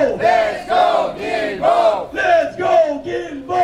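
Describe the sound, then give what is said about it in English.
A crowd of protesters chants in unison outside the De l'Église metro station in Verdun, Montreal, raising awareness about metro accessibility. The chant is loud and steady, with short voiced syllables repeating at roughly two beats per second, each shout rising and falling together. “Thursday, June 19th, a group of protesters outside the De l'Église station in Verdun were raising awareness about accessibility in the metro system.”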